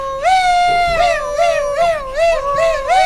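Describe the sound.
A voice imitates a kind of canon of car alarm sirens, holding a loud, steady tone that warbles up and down in pitch in quick repeating cycles for about three seconds, with no other sound.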